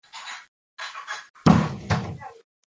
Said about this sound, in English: We have lots of doors slamming.